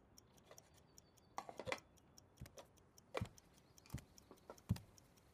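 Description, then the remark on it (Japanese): A handmade clock ticks steadily, its soft, even clicks interrupted by a few louder wooden clunks. No one speaks. “正解、時計です。”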